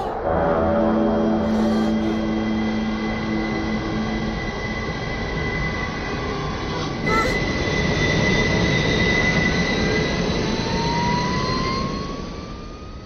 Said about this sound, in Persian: قطار در حال نزدیک شدن است، احتیاط کنید.